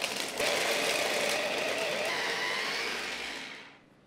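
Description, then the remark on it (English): A blender whirs loudly in one steady burst lasting about three seconds, pulsing carrot, French beans, green chilies, ginger, corn, peas, chickpeas and paneer until minced. It makes a harsh grinding motor roar that then winds down and stops. No one speaks. “Now I'm going to pulse and blend this until a riot of vegetables are kind of minced.”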